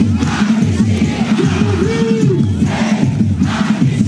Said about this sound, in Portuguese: Aos gritos de sem anistia para fascistas, eles carregavam cartazes e faixas com palavras de ordem.